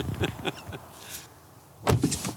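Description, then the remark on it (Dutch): The door of an electric car is held open with a few mechanical clicks and rattles as a passenger gets in, then after a short pause it shuts with a single solid thud. No one speaks. “Als een echte prinses mag ik instappen en de deur wordt voor me opengehouden en zelfs mijn gordel wordt aangegeven.”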